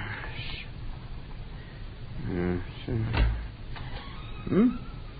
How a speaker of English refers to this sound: Blasted door.